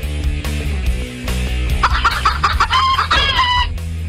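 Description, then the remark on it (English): A chicken clucks in a quick run of short, throaty calls, fairly loud, heard over a steady low background drone with no one speaking. “Each chicken sound has a specific meaning, like their own language.”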